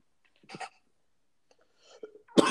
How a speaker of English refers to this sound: Yeah, we doing a whole lot of coughing.